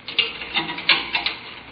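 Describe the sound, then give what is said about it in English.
Metallic clicking and jingling as keys from a bunch of 50 are fumbled and tried in the lock of a door in an old temple, with a few sharper rattles spaced irregularly over the short span and no voices. “50 keys. Which one fits?”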